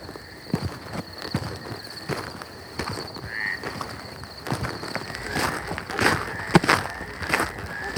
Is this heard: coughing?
no